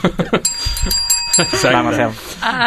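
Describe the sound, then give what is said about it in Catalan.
A single bright ring of a small bell used as a game buzzer, like a bicycle or desk bell, sustaining for about a second as people talk and laugh over and after it. “Si vols, jo... deixo el timbre.”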